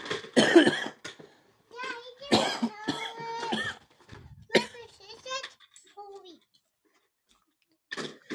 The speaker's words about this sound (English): You ever hit a bowl and you hit it a lot harder than what you thought you did? And you're like, holy crap. Steamroll yourself? Yeah, I'm really trying hard not to cough my head off right now, dude. That really hurt.